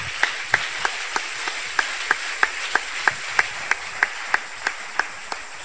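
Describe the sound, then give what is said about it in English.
An audience claps hands together in a steady, even rhythm, sharp unison claps repeating roughly three times a second over a faint background hiss, with no voices. “Clap your hands.”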